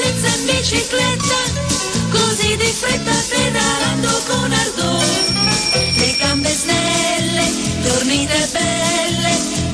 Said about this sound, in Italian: Insomma, Laura, qua ci sono le biciclette che scampanello, cosa ci hai portato? Scampanellano, e poi è anche molto primaverile l'atmosfera in questa canzone degli anni 30.